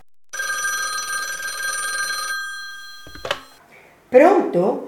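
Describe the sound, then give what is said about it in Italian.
A telephone on an erotic phone line rings once in a sustained, bright two-second burst, fairly loud, followed by a brief click as if the handset is lifted, then someone starts talking. “Sì, è il telefono erotico.”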